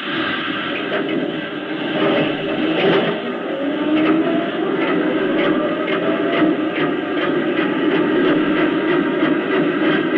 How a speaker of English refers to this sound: Mr. Davis, are your forms locked? Forms locked, yes, sir. Then let your steam presses roll.